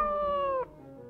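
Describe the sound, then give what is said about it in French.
A single drawn-out cat meow, clear, holding a steady tone that dips slightly in pitch before cutting off abruptly, followed by quiet background. “Les chats abandonnés.”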